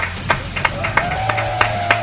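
Audience applause comes as a steady, rhythmic clap, about seven sharp beats evenly spaced over two seconds, with a faint sustained tone humming underneath.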